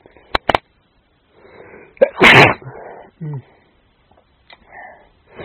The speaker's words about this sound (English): I'm pretty sure that I'm starting a cold, because I can't think of any other reason that I'd have been sneezing and so on as much as I have been today.